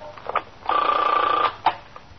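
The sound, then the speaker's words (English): A telephone at the First Precinct rings once with a steady, buzzing electronic tone lasting under a second, preceded and followed by brief clicks and faint bursts, without any voices; the caller is a lieutenant from the Manhattan West Homicide Squad. “A lieutenant from the Manhattan West Homicide Squad is ringing in for some information about an armed robbery we had in the 21st last week.”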